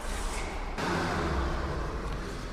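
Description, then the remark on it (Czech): A car drives past, a steady, fairly loud wash of engine and road noise with a low hum underneath that thickens slightly partway through. No one speaks. “Ale pojďme si tedy říct, protože za chvilku tady pojede auto, kolik takových těch oficiálních krytů Olomouc má?”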